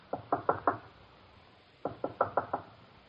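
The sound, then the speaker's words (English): Knocking on a wooden door: a quick series of four firm raps, a pause of over a second, then five more raps, sharp with nobody talking. “Who is it? Bong. Who? Bong. Open the door.”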